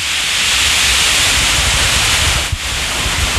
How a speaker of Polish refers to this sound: Tak. Ta woda jest napowietrzana właśnie poprzez wyrzucanie ją w powietrze, tak? Tak, powietrze jest związanie się z tlenem w powietrzu, a tym samym te żelazo, którego się pozbywamy podczas uzdatniania, tutaj ulega kłaczkowaniu.